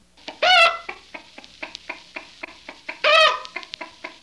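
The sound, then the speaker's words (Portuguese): Several chickens that have got into a vegetable garden cluck while eating the vegetables, a steady patter of short, sharp calls broken twice by a louder, drawn-out squawk; no one speaks. “As galinhas invadiram a horta e estão comendo os legumes.”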